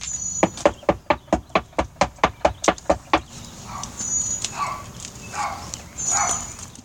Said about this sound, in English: we can hear him knocking on the actual door. Nobody answers, so...